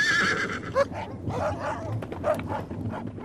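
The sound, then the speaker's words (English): A horse whinnies with a high, wavering cry, mixed with dogs barking and a busy, noisy commotion. “My horse!”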